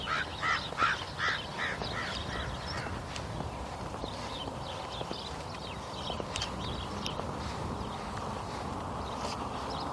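Crows caw in a quick run of harsh calls at the start, then give scattered fainter caws over a steady outdoor hiss of wind or traffic.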